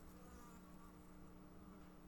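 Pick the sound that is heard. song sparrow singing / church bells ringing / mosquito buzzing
mosquito buzzing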